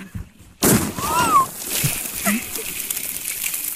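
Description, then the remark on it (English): A big bottle rocket firework explodes under ice in Sweden: a sudden muffled boom bursts out, followed by twangy, descending zinging tones like vibrating wires, fading into a washy, sloshing tail with faint voices. “And you hear that part at the end that sounds like the wires? Ice, yeah, it's like skimming the ice.”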